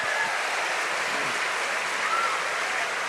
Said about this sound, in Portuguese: Você pode adorar e aplaudir ao Senhor. Oh, come on. Can we give our Lord and Savior praise? He's a mighty God. Olha, se eu quero que você aplauda melhor, vamos aplaudir e adorar ao nosso Deus.